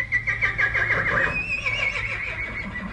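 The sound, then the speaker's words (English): A horse evacuated from the Simi Valley fires lets out a loud, drawn-out whinny with a quavering, wavering pitch that trails off, in stables at Pierce College in the San Fernando Valley, over a low background hum. “Here, horses eat food donated by local residents, stay in stables with names like the Mayor Motel”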